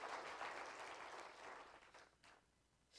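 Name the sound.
audience clapping hands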